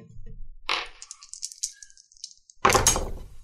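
Three six-sided dice (3D6) are rolled to see how strong a burning hands spell is: a short rattle, then a scatter of light, bright clicks as they tumble, ending in a louder burst of clattering. No one speaks.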